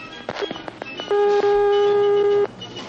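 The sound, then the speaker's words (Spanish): A steady electronic line tone from an old, heavy, non-digital telephone sounds for over a second, loud, with a clear pure pitch and a faint harmonic, among brief clicks and low background noise. “Otra vez el ruidito. De aquellos teléfonos que si te lo tiraban a la cabeza, te abría la cabeza.”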